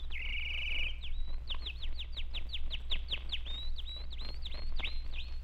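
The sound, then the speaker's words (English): A pet canary sings alone in a home, opening with a quick buzzing trill and then a steady run of bright, rapid chirps and whistled notes, over a faint low hum. “Just telling our canary what a lucky guy he is.”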